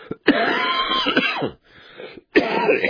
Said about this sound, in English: Excuse me, didn't get my hand over to the cough button in time, I apologize.